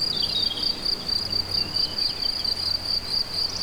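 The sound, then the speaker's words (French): A dense, continuous chorus of many crickets chirping together, a steady high-pitched shimmer filling the background with no voices present. “Beaucoup de grillons, d'insectes.”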